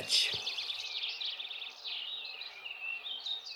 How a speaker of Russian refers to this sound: Услыхал медведь прекрасное пение какой-то птицы и говорит: «Братец волк, что это за птица, которая так прекрасно поет?» «Тише, тише, это король всех птиц, перед ним мы все должны преклоняться». А птица была королек.